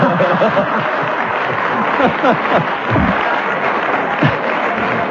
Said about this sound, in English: I know I have to keep going even when you applaud, because otherwise I shall be had up for hesitating.